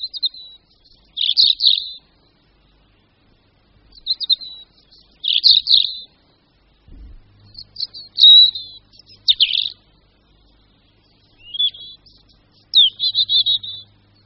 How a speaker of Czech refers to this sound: Tento melancholický zpěv vychází z hrdla jednoho z našich stále nejběžnějších a nejznámějších ptáků, červenky obecné.